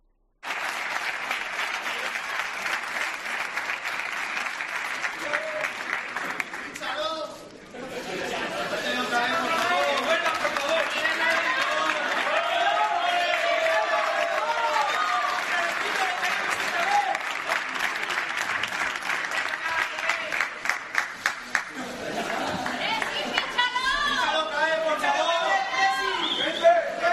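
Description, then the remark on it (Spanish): A large crowd claps and shouts continuously in the background during Cristiano's hug, kiss and reunion, a dense roar of applause with voices rising and falling and shouts of "fíchalo", briefly dipping once before swelling again with louder rhythmic chanting near the end. “Abrazo, beso y estos gritos de fondo.”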